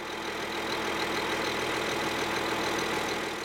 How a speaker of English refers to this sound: Dusty pumpkins slap between rough hands as workers throw them into a tractor's trailer.